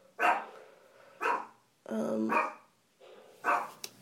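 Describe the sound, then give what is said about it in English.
A small dog lets out four short, playful pretend barks at an uneven pace, fairly loud, with brief quiet gaps between them and a longer, drawn-out bark in the middle, as letters are put through the post box. “It's a really pretend bark, I can tell.”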